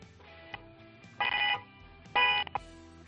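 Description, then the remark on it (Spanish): The horn of a 2017 car in León honks twice over a phone line, two loud, tinny blasts about a third of a second each, separated by a short pause, over a low murmur of background noise. “en León, venga, toca ese claxon, a ver cómo suena.”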